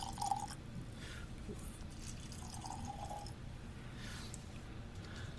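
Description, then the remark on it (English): About a tablespoon of water drips and trickles from a small pitcher into a glass of whiskey, a few soft liquid plinks over a steady low rumble, with no talking. “Tablespoon each of water in there.”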